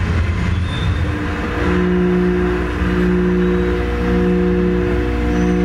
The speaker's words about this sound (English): That's the harmonic pulsing tone of one floor. And as you enter the stairwell, all the other tones, which are slightly different, start coming together in different harmonic ways. kind of relaxing at times.